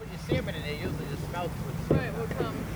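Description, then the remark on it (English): Outdoor ambience by the boat ramp of Long Pond in Rutland, Massachusetts, at the edge of the town parking lot on a misty fall morning: a steady low rumble and breezy wind noise, with several people chatting indistinctly in short, overlapping bursts as people unload pickup trucks. “It's a misty fall morning on Long Pond, and at the edge of the town parking lot, over by the boat ramp, people are unloading a few pickup trucks.”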